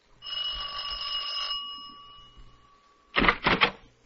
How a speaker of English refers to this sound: Then you ring the doorbell like before.